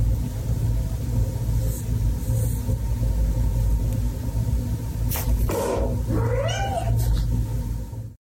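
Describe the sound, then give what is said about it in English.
A cat lets out a couple of drawn-out, wavering meows over a steady low engine-like rumble, the yowls rising and bending in pitch, clear. “The unspoken rule every cat owner knows: stay far away after bath time.”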